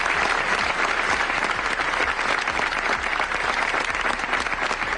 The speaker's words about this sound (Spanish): Dos nuevas víctimas que hoy han sido recordadas con 5 minutos de silencio en la localidad al mediodía y donde solo los aplausos al final han logrado romperlo.